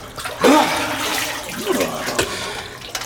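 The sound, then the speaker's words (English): Warm water pours and splashes in a steady, rushing stream for about three seconds, with a louder gush near the start and a few gurgling swells along the way. “Some more warm water, General.”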